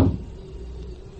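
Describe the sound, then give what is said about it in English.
A door is broken down: one sharp, heavy crash at the start, followed by a low, fading rumble and room noise. No voices are heard. “Break the door down.”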